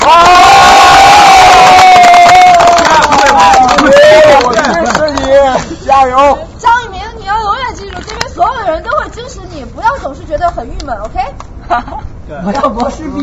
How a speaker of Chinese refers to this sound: 这样一个团体，这样一波朋友，这样一波抛去是那个世俗一切的凡事啊，你们一起为理想一起加油的人，鼓掌。